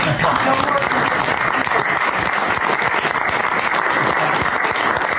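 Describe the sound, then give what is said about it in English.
Steady, dense applause from members of the press, loud and continuous with no pauses, a sustained wash of many hands clapping at once. “That was the press that broke out in applause.”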